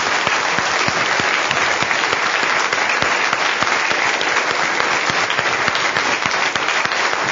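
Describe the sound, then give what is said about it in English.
A crowd claps steadily in a sustained round of applause for the people who work with children in Sunday school or on Wednesday nights, dense overlapping hand claps at an even loudness throughout, with no voices rising above it. “We deserve a big round of applause. Give them a big round of applause.”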